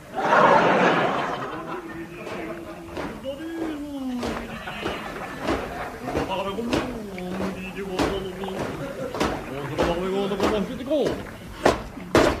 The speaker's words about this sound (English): There in the other end of the lifeboat was a gas stove. Could this be the end of our search? I'll knock on the oven door.